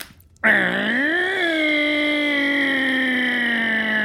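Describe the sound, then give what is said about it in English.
A voice imitates a chainsaw as a clue in a guessing game, with one loud, buzzy, sustained drone that starts abruptly, dips and briefly rises in pitch, then holds steady for several seconds. “That was a chainsaw.”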